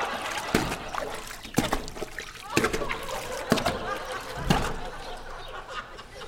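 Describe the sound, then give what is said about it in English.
Water sloshes and splashes in a steady rhythm of broad surges about once a second as someone walks from one side of an above-ground swimming pool to the other, moderately loud with faint trickling between strides. “You'll find there's lots of fun things to do in an above-ground swimming pool. For example, there's walking from one side to the other.”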